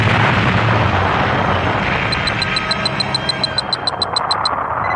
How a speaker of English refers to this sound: When Krug's men arrived, the Enterprise was empty and silent. All they heard was a computer voice counting quietly down to zero. And then, a tremendous explosion.